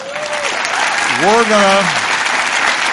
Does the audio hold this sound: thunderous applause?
yes